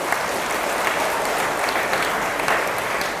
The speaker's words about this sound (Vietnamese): Cho một tràng vỗ tay thật lớn nào.